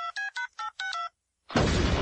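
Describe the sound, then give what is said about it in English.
Five quick telephone keypad tones beep in a steady sequence, followed by a short silence and then a sudden loud blast of harsh, crackling noise. “Damn, phone's busted.”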